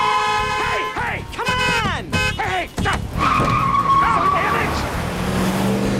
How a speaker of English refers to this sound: speeds away from the car valet.